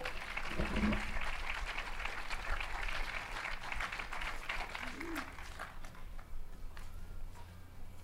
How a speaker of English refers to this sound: Let's clap them onto the stage.